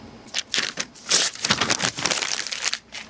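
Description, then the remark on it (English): Loud crinkling and crackling of paper being crumpled, a dense burst of irregular rustles that swells and fades over a few seconds with no voices. “Stop wasting paper.”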